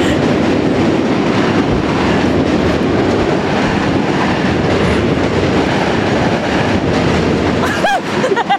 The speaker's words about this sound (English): We are in the park, but above us is a bridge, and on the bridge is a train. So if you ever hear, it's because the train's going by us.